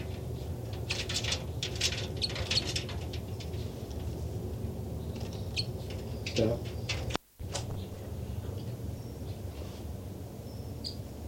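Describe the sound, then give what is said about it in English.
Two birds, numbered 273 and 274, give quick bursts of high, scratchy chittering, responding to each other over a steady wash of background noise, busiest in the opening seconds, with fainter calls later and a brief dropout of sound. “Chitter by the birds.”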